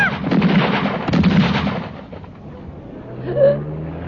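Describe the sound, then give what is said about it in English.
Loud, rapid gunshots ring out from a passing car, fired by a man in a mask, in two quick volleys, cracking sharply before fading into a low rumble with a brief higher-pitched whine at the end. “Oh, my God, I'm shot.”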